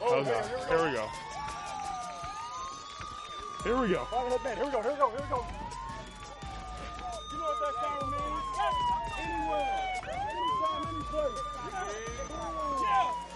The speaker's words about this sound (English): When the siren goes off, it means we're going to go full speed, full tackle. Everybody's live except for the quarterback.